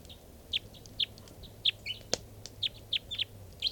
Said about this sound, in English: One of the birds is perched on the bird's cages now. Stop. This is one of the birds.